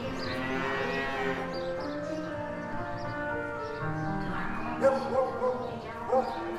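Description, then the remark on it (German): About a dozen massive white-and-brown spotted Normandy cows in a covered loose-housing barn on a farm low continuously, their long droning moos overlapping into a thick, steady chorus, with a few sharper calls standing out near the end; fairly loud. “Ein Dutzend Normandie-Kühe stehen in einem überdachten Laufstall.”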